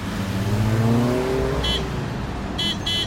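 City car traffic in an inner-city centre with a loud engine revving upward, its pitch climbing over the first second and a half, followed by a few brief high-pitched chirping tones over the steady road rumble.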